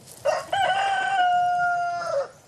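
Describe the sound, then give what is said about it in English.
A single rooster crows loud, one long cock-a-doodle-doo lasting about two seconds, with a sharp rise at the start and a drawn-out falling tail, no voices present. “domesticated millennia ago from a wild South Asian ancestor called the red jungle fowl, a member of the pheasant family”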